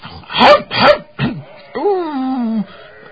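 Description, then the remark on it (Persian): A person mimics a dog with two sharp barks, a shorter yip, then a long drawn-out whining howl, loud with no other sounds around it. “نشد، بهتر چون سگان.”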